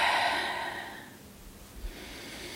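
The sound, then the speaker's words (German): A long, deep inhale through the nose during a guided breathing exercise, a breathy hiss that is strongest at the start and slowly fades over about two seconds, with no talking. “Nehmt einmal einen ganz tiefen Atemzug durch die Nase.”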